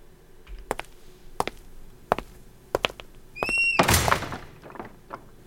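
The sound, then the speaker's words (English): Heavy castle doors open: several deep, evenly spaced thunks ring out, then a brief high creak and a loud rushing scrape as they swing, with a couple of fainter knocks afterward. “Well, here you are, the castle doors. Go on in.”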